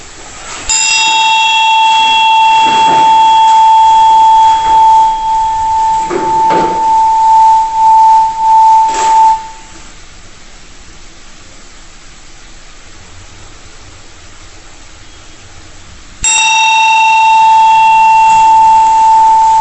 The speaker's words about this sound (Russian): И, не закрывая глаза, ровно дышим обычным образом своим носом, начинаем и заканчиваем с ударом колокольчика.